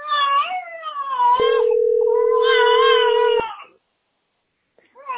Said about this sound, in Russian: Ты чего? Мяу.